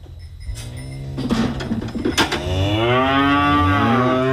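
A cow moos loudly on a dairy farm, one long drawn-out low call that rises and swells toward the end, with faint clanking farm noises around it and no one speaking.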